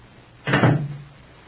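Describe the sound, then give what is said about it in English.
A front door closes with one solid thump in the radio drama Backstage Wife, as Rupert Barlow and Mary start toward the front door. A short low rumble follows and fades quickly. No one speaks. “Rupert Barlow takes Mary's hand in his own and starts toward the front door with her.”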